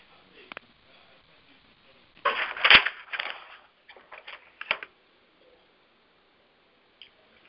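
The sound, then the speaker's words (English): Muffled rustling and scraping over a thin, band-limited phone line, arriving in irregular bursts with a few sharp clicks, then trailing off into near silence. No one speaks. “So I heard some rustling at someone who has a phone number.”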